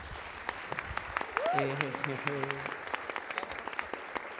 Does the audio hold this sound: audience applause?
yes